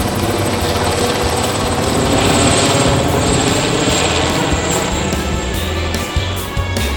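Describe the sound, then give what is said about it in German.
A loud helicopter hovers only a few metres above a man, droning steadily, its rotor thumping rhythmically beneath a hissing engine whine, with a few brief chopping dips near the end and no voices. “Jetzt schwebte der Helikopter nur noch wenige Meter über ihm.”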